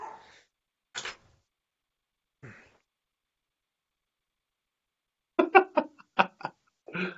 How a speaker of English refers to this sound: And then I got my stupid dogs that won't shut up.